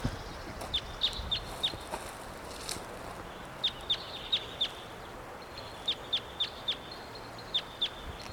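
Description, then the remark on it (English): A wild bird up in the high treetops calls in quick series of sharp, high-pitched chirps, usually four at a time, repeated several times over a faint steady hiss, with no voices. “Wild bird. Not sure which one this is.”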